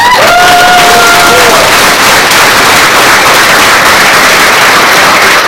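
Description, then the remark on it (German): A large audience bursts into loud, sustained applause for Dan Kaminsky before his talk, dense clapping with cheers and a few whoops rising over it, including an early high whistle, continuing steadily throughout. “Everybody give Dan Kaminsky a huge round of applause.”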